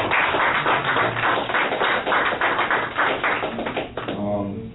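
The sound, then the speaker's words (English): An audience gives itself a round of applause for about four seconds, a dense, steady patter of many hands clapping, before fading as a voice starts speaking at the end. “If you could again give yourself a round of applause for being real about your birthday.”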